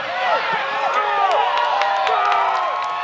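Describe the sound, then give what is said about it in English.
About 100 people on a lawn at a waterfront baseball watch party in St. Petersburg cheer steadily after Rays second baseman Brandon Lau hits a home run, many voices overlapping in rising and falling shouts and whoops, with a few sharp claps cutting through the loud, sustained roar. “About 100 or so people cheered from spread out and socially distant sections of a lawn, nowhere near capacity.”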